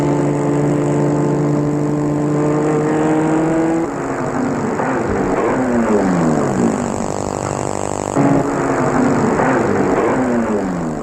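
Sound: car engine driving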